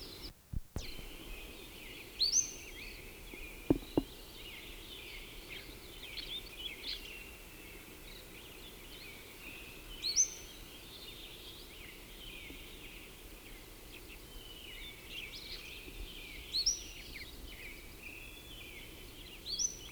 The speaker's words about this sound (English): The bird has stopped singing. Moved and is giving call notes. But I stopped to play back what I had to see if it's any good. It may have had something to do with it stopping singing. This is still the same bird calling.